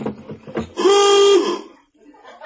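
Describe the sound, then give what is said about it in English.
A cash drawer alarm, which signals when anyone is in the cash drawer, gives one loud, steady, buzzy honk lasting under a second, reedy and mid-pitched, right after a man speaks, followed by quiet murmuring. “That's to tell me when anyone's in the cash drawer.”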